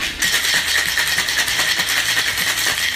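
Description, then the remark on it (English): A cocktail of fresh lime juice and agave or sugar syrup is shaken with ice for three seconds, a loud, bright, rhythmic clatter of cubes knocking against metal, with no voices. “And then give it a shake.”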